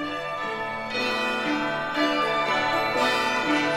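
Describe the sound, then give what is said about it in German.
Bells that first rang out in 1939 to herald the triumph of the novel Gone with the Wind ring with rich, lingering overtones, struck roughly once a second in a steady peal that builds into a continuous, fairly loud wash of sound with no voices. “1939 erklangen diese Glocken zum ersten Mal und läuteten den Triumphzug eines Romans ein, der in der Verfilmung 8,8 Milliarden Dollar einspielte, 10 Oscars gewann und Margaret Mitchells Südstaaten-Epos Gone with the Wind weltbekannt machte.”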